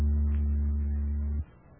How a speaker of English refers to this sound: That was an electric oscillator you just heard, making the molecules reverse themselves about 80 times per second.